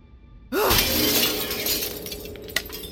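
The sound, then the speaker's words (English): A sudden, loud crash as the glass of a case holding a fire axe on the wall is broken, bursting in after a brief quiet, followed by a sustained spray of tinkling shards that slowly thins out, with one more sharp clink near the end. “You'll have to break the glass.”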